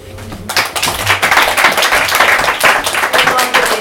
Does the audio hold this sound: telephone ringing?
no